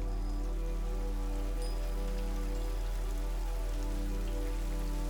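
Soft, steady rain falls continuously, a gentle even patter of drops on a surface with a low, constant hum beneath it and no voices.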